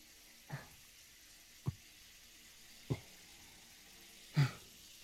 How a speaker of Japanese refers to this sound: さて、君の栗はシャワーの水圧に耐えられるかな。